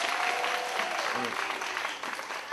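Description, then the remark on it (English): An audience claps steadily, a dense wash of many hands applauding at a fairly even, moderate level for the full couple of seconds, fading only slightly toward the end. “Give them a big round of applause, if you please.”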